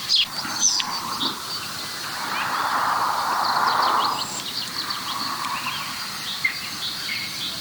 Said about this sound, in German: Oh, leider fliegen die jetzt weg. Die waren nämlich genau vor mir gerade. Da hört ihr sie noch. Dieses Tüt. Zwei balzende Schwarzspechte.